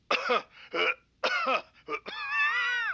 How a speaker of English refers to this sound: I mean, cough twice if you are. Like this.